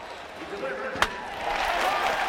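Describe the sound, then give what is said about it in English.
At a baseball game, a single sharp crack of the bat as the batter hits the pitched ball rings out over a steady murmur of the stadium crowd, followed by the crowd noise swelling slightly. “At the baseball game, the pitcher pitches and the batter hits.”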